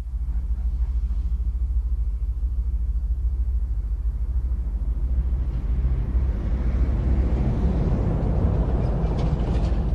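Trains rumble in a Transport for London depot where trains are parked when not in service: a deep, continuous low-pitched drone that grows fuller and noisier in its second half, with no voices.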